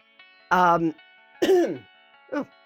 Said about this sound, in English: That's why I edit, so I can edit out my coughs.